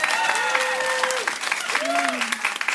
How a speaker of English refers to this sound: We're going to do an applause-o-meter. If you think it should make it in, applause.